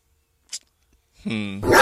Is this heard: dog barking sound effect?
yes